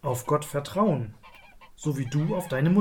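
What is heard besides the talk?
goose honking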